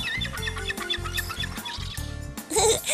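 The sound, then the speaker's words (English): Seagulls squawk over and over at a beach in quick, overlapping bursts, loud, with harsher cries breaking in near the end. No one speaks. “Seagull!”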